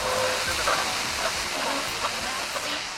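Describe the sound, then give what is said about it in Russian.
Steady rain pours down in a dense, even hiss that fills the whole clip, with faint scattered patters and splashes breaking through the continuous wash of sound. “Медленно опускает зонт назад, поднимает лицо к дождю.”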